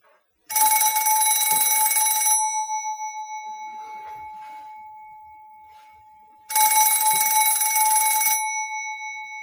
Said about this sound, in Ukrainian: Телефонний дзвінок вивів його з задуми.